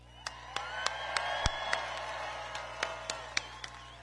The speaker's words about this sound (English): The comment brought cheers from the crowd,